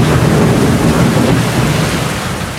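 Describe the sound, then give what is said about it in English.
Heavy rain pounds a tin roof of a home in Taylor, Mississippi, in a dense, unbroken roar of hiss and patter, loud throughout and easing only slightly toward the end, with no voices. “It's the kind of rain you can't see out the windows. And my place here in Taylor, Mississippi, population 343 and me, has a tin roof.”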